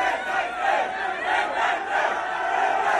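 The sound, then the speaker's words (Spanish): A crowd at the race pit lane roars as Fernando Alonso goes out to the pits, a sustained, dense uproar of many voices shouting and cheering together, loud and continuous with slight swells in intensity, and no single voice standing out. “en este corte la que se ha liado cuando ha salido Fernando Alonso a boxes”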